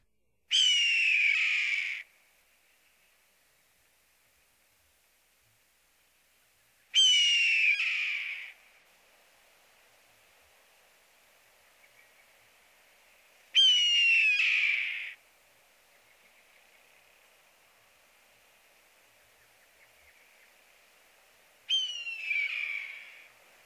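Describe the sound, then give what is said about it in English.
Four loud, raspy descending screams of a red-tailed hawk, each about a second and a half long, spaced several seconds apart with quiet gaps between, heard clearly. “Note that the red tail's call is usually one long slurred syllable, gear.”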